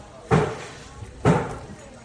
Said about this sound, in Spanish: de los agentes de la UME golpeando con martillos las ventanas de los coches, todo para ver si hay cuerpos en el interior.